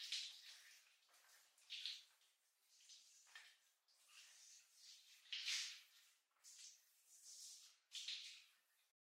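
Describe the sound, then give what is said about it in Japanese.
Water from a shower runs steadily, a bright hissing spray that swells and dips every second or so as it is interrupted, with no voices. “まあ、私もシャワー浴びてくるから、その間に明日の準備はしっかりやっておくのよ。”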